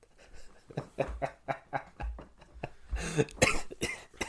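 A rapid series of harsh, fairly loud coughs coming in quick bursts with a few heavier, raspier hacks near the end; no talking.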